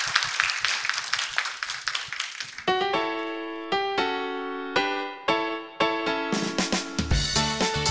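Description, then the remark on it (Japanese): A crowd claps together in a dense burst of applause for a few seconds at the close of a Hankyu Hanshin REIT investor relations seminar, then it stops and a bright, chiming musical jingle of sustained notes takes over. “皆さん大きな拍手でお送りください。”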